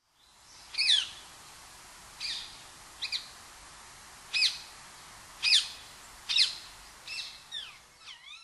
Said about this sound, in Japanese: コジュケイです。